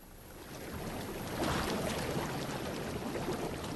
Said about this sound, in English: I hear water. There it goes. There okay. Go. That's 855. That's the jacuzzi.